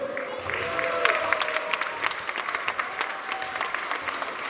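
An audience claps steadily in a dense, continuous wash of applause, with a few scattered whoops and cheers rising briefly above it, sustained at an even level throughout.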